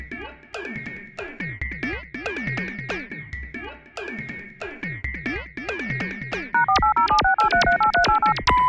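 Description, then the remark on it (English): A telephone number is dialed with a quick run of touch-tone beeps, each a steady two-note pitch, following several seconds of repeating, swooping electronic tones with no talking. “The number you have dialed has crashed into a planet.”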